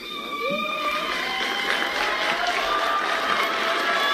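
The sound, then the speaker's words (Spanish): Survivors in a courtroom in Dakar, Senegal, applaud steadily while high, sustained shouts and cries ring out above the clapping after a life imprisonment sentence is announced on 30 May 2016; the roar stays loud and dense for the whole stretch. “Aplaudiments, crits dels supervivents.”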